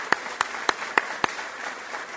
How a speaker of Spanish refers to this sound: Así que si me permiten, el aplauso y felicitar a todos los técnicos que trabajan en el ámbito de la educación pública.